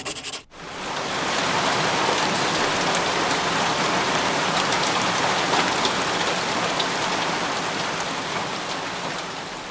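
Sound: rain falling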